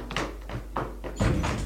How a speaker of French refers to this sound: Elle est fermée à clé. Elle tape. Elle est bien fermée à clé.